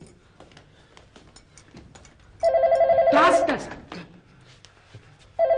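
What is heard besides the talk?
telephone ringing unanswered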